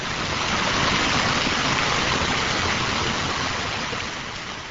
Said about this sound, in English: Whether it's flowing, splashing, or gushing, water in the Dells area is always close by.